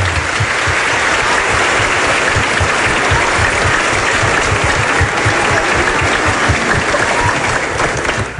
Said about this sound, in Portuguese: Então, convido vocês a ficarem de pé e a gente dá um viva também às nossas famílias, né, padre? Viva as nossas famílias! Grande salva de palmas! Viva!